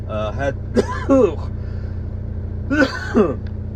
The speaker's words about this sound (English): I had to start up the truck. You know, I don't want the damn thing to die on me, so I had to start up the truck.